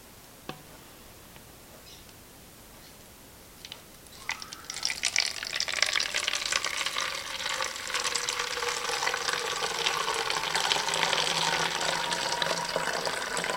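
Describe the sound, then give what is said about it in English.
Freshly mixed fixer chemical is poured into a bottle labeled fixer, a steady splashing gurgle that starts after a few quiet seconds and runs continuously to the end, its tone shifting as the bottle fills. “Now, we'll pour that into the bottle I labeled fixer.”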